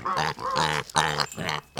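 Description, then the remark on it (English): A pig grunts and oinks in a quick run of four or five loud vocal bursts, each harsh and nasal, with brief gaps between them. “Researchers say they have created a technology tool that uses pig sounds to interpret different emotions the animal is feeling.”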